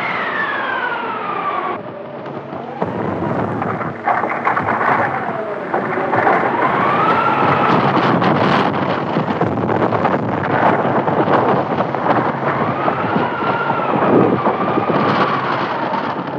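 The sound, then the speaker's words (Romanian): A loud, continuous desert windstorm (simoom) with a dark whirlwind rapidly approaching, its howling wind swooping up and down in pitch over a dense rumbling, thunder-like noise that barely lets up. No one speaks. “E o trombă! Se apropie vertiginos.”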